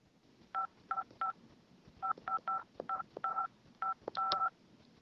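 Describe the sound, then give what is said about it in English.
A phone number being dialed: a quick series of about a dozen short, steady two-tone keypad beeps in irregular bursts, clear and moderately loud over faint background hiss, with no talking. “Why don't I will dial first. Okay, dial.”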